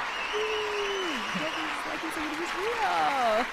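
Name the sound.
applause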